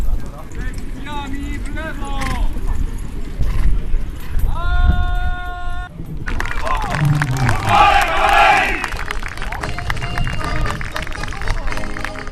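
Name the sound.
horses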